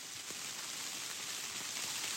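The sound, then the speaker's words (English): Heavy rain pours steadily in a woodland, a dense, constant hiss with scattered drops pattering on leaves and ground, loud and unbroken with no voices. “It's raining ever harder here in the woods.”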